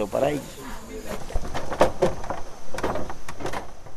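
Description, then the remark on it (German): A wooden suspension bridge at Basecamp 1 creaks and groans as it is crossed, with drawn-out tonal creaks followed by a series of sharp knocks and thuds as it shifts underfoot. “Nach 4 Stunden kommen wir über eine knarrende Hängebrücke im Basecamp 1 an.”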